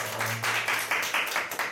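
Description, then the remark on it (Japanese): A church audience claps in thanks and praise to God after a prayer, a dense, steady patter of many hands with rhythmic surges of louder clapping; a brief low hum sounds at the start, and no one speaks. “もう一度神様に感謝と賛美の拍手をいたしましょう。”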